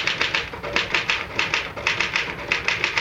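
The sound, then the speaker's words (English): Rapid, steady typewriter keystrokes clatter in a quick rhythmic run of crisp taps, fairly loud, with no voices over them. “Well, the truth is that the typewriter, or rather, Mr.”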